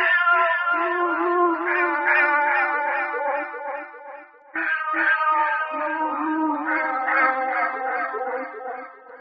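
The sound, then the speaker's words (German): A male cat, just shooed off a bed, yowls loudly in two long, drawn-out wavering meows, separated by a brief pause, with no one talking. “Er scheuchte den Kater vom Bett und faltete die Zeitung zu einem Dreispitz”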